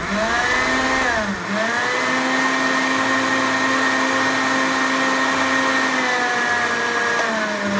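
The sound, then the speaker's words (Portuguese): A blender making muhammara runs continuously with a loud, steady motor whine, dipping briefly in pitch near the start as the load shifts, then holding a constant droning hum. No voices. “Eu vou precisar de um pouquinho de água, assim. Espera só um pouquinho, ó. Bate mais um pouco.”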